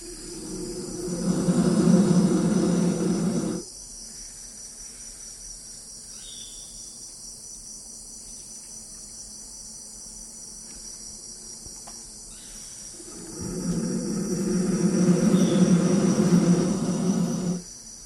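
Two small black baby vultures in a nest hollow in a large fig tree let out two long, loud, raspy roars several seconds apart, picked up by microphones lowered into the hollow, with a quiet stretch between them and a steady high insect drone running underneath throughout.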